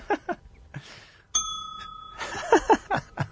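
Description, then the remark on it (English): A single bright bell strike rings out clearly, its clean metallic tone hanging briefly before fading, with people talking just before and right after it. “Well, just hit the bell.”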